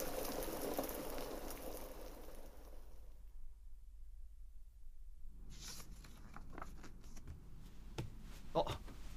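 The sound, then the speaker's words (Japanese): A pot of water at a steady boil for pasta, its soft, dense bubbling heard clearly. The bubbling drops away briefly in the middle, then returns with sharper pops and crackles. “お湯も沸いてるしパスタの用意も忘れないで。”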